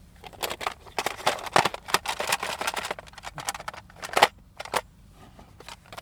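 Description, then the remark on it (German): Cassette tapes clatter in a cassette box: a dense, irregular run of sharp plastic clicks and rattles, with a few brief pauses and louder clacks. No one speaks. “Was wir hören, sind Kassetten in einer Kassettenbox.”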